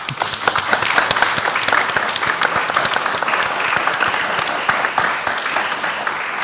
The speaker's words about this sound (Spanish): Me merece un aplauso, ¿verdad?